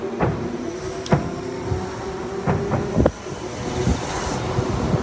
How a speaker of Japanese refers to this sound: 後半はもうほとんど車の音にかき消されるんですけども、うん、これが私の夏の BGM です。 うん、 脳内ではなくて実際に実際に鳴っている音ですね。